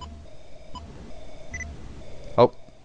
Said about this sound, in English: All right, we'll go up. Again? We'll go all the way around. We're still in the hour box here. We're still in the hour box. We're hitting up, and it's beeping at us.